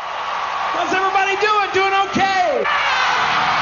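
A huge concert crowd of some 750,000 people in New York roars as a performer in a cowboy outfit comes on stage, a steady, dense wash of cheering with loud individual yells and whoops rising and falling above the din throughout.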